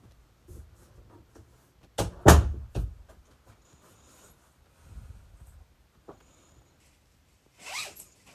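A suitcase zipper is pulled in a few quick, rasping strokes, loudest around the middle, followed by scattered soft rustles and a final short zip.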